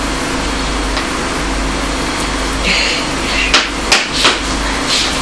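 tapping

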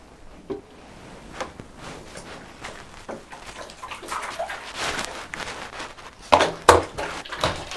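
water running

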